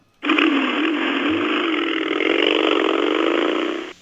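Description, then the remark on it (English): A loud, continuous motorcycle engine roars for about four seconds as the motorcycle revs and rides away, its pitch rising and sliding, then cuts off abruptly. No voices are heard. “Revs and rides away.”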